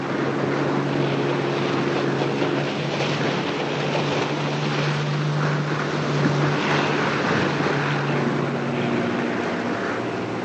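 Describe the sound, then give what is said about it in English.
A ski boat's motor drones steadily on the water, its low hum holding a constant pitch while water rushes and splashes around the hull throughout, with no voices. “could you stop the boat a minute?”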